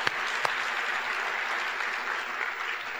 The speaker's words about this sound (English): And we're going to give you a round of applause from over here.